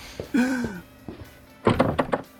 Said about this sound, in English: And here's another door locked behind us.